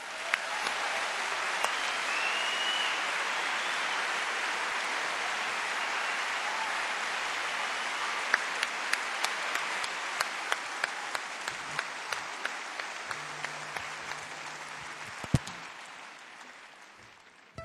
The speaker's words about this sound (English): Veuillez applaudir